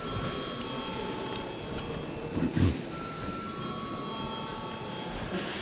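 A parliament bell in the Latvian Saeima rings steadily for several seconds before a vote, its bright, sustained tones holding at an even level over a low background rumble, with a brief soft thump partway through.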